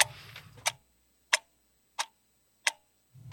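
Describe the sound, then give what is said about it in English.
A small clock ticks alone in four sharp, evenly spaced clicks about two-thirds of a second apart, clear, with a brief low rumble at the start and end. “Little clock.”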